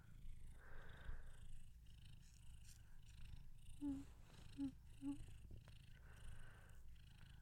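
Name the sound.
cat purring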